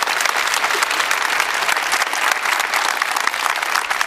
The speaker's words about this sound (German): Gerne Applaus.